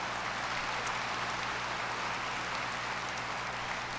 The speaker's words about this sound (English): I want you guys to do me a favor, and that is if you see anyone who's a part of this ensemble up here out in the hall or afterwards, would you thank them for the work they put in for this morning? And yeah, you can clap, that's okay.